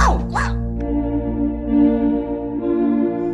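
Canito, the detective dog of a television programme, gives a couple of quick, bright barks at the start, followed by a steady humming tonal backdrop that carries on at moderate loudness.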